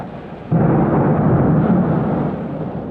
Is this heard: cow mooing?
no